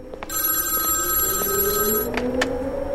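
A telephone bell at Mrs. Pringle's residence rings steadily for about two seconds, a bright sustained metallic trill, then stops; a few soft clicks follow, with no one speaking.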